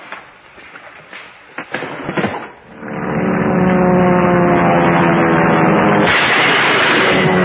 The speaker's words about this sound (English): What kind of planes were involved? How many motors on the second plane? Which plane was cut in half? Top, bottom, or the center? How many planes crashed? If more than one, which plane crashed first?